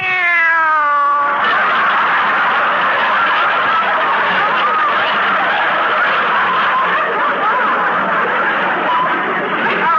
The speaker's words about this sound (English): Meow. What's that, Mrs. Davis? Oh, it's Minerva.